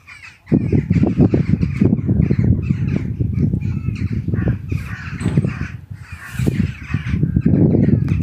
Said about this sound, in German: Da hatte der Tag dann langsam auch schon begonnen und die ersten Vögelchen hatten schon zu zwitschern begonnen.